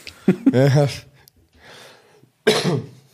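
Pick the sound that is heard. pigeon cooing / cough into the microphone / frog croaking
cough into the microphone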